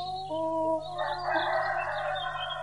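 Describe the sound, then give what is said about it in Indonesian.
At daybreak, a rooster crows in one long, loud, strained call that rises and holds before breaking up, with a steady low hum underneath and no talking. “Ayam kutanku pun telah berbunyi.”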